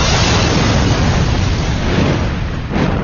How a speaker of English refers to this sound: The whole peninsula seemed to shake as the base of the tower broke apart from the titanic explosion. The structure lifted into the air on a fireball, then came crashing down.